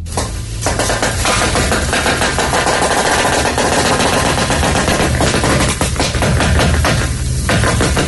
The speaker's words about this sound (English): If you ever wondered what it sounded like when a Jeep drives over a bunch of bubble wrap, you don't need to wonder anymore.